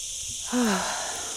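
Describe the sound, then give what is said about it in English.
A chorus of cicadas buzzes as a steady, high-pitched hiss throughout, with a brief low, wheezy tone sliding downward partway through. Recorded at the Font den Prats well near Atzarel in central northern Ibiza on a midsummer day in early July. No one speaks. “Ooh, from the chorus of the flies back to the chorus of the cicadas.”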